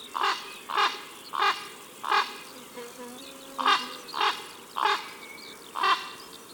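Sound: common raven croaking calls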